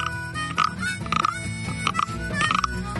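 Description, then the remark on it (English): A wooden frog noisemaker is scraped repeatedly, producing a series of ratchety croaks in an uneven rhythm, fairly loud, with no talking. “I don't know whether to bring out the dinger first or the frog.”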